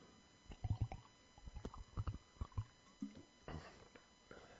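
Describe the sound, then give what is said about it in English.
A speaker drinking water during a sermon: a string of low, wet glugs as water is swallowed, coming in uneven bursts, then a brief softer rushing, gurgling sound near the end. No one speaks. “I'm told you can hear the glugs of water on the recording.”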